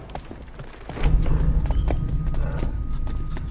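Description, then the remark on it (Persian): Several cows' hooves clop on a hard street in an irregular, overlapping rhythm over a low rumbling background that swells about a second in. “نه گاوای لعنتی تو خیابونم.”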